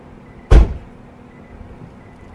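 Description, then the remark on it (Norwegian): A single heavy thud of a car door slamming shut as people get into a car, fairly loud, with a short muffled decay before a quiet background hum returns. “Der hoppet vi inn i bilen, ja.”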